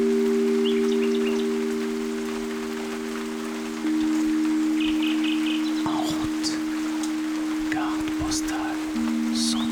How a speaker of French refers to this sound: C'est la nuit. Vous êtes dans la forêt, à l'abri dans une cabane où s'écoule la pluie et caché dans les feuillages. Le rossignol chante.